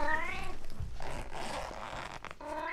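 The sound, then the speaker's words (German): A cat meows at the start, followed by a rustling, zipper-like sound of a cat carrier bag being carefully opened, then another clear cat meow at the end. “Also wie eine Tasche quasi? Ja, eigentlich eine Tasche für eine Katze. Okay, dann machen wir ganz vorsichtig auf.”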